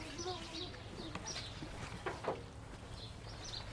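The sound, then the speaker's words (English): Chickens cluck and squawk loudly in a busy flock, with bursts of sharp calls over a steady low background rumble. “Can you get those chickens out of here?”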